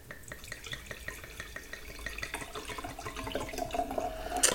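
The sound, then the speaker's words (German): Wine pours into a glass with a steady gurgling trickle, small splashes and bubbling, the pitch rising as the glass fills and getting a little louder toward the end; no one speaks. “Auf der Aufnahme nicht mehr dieses sympathische Geräusch gab, wenn der Wein dann das Glas berührt, quasi das Glas küsst.”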